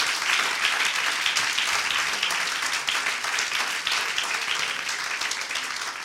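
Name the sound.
audience applauding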